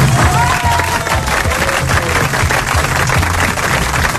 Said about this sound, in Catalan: Per tant, aplaudiment per Marc Bala.